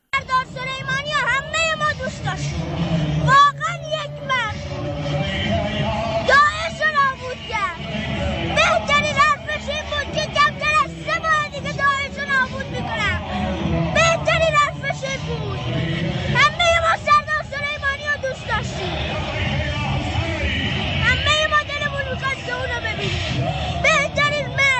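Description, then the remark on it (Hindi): A huge street crowd in Iran, people gathered to pay tribute to General Soleimani when his body was brought to Iran, roars continuously, many voices chanting slogans and shouting together in repeated bursts over a dense, steady wall of outdoor babble and rumbling traffic. “का शव जब ईरान लाया गया तो लाखों और करोड़ों लोग अपने बहादुर योद्धा को श्रद्धांजलि देने के लिए सड़कों पर उमड़ पड़े।”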